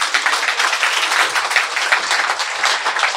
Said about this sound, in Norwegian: Applaus.